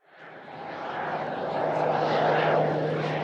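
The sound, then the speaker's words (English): A small Alaska Seaplanes propeller commuter plane, the first flight of its new daily Sitka–Petersburg–Wrangell route, touches down at Wrangell Airport, Alaska, on May 26th; its engine noise swells over the first second, then holds as a loud, steady drone with a low, constant hum underneath. “KSTK's Sage Smiley watched the first plane touch down and has this report.”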